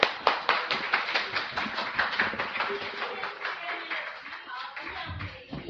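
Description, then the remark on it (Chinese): An audience claps steadily for a group of performers in qipao, a dense burst of applause with many hands overlapping. The clapping thins and fades toward the end, with faint voices underneath. “我们再给他们一个鼓掌好不好？”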